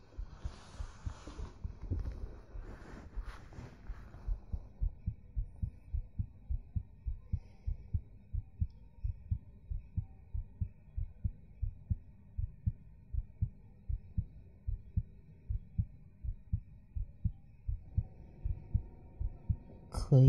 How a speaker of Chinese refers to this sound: 接下来你就在我的怀里睡着吧。希望我的心跳可以让你入睡。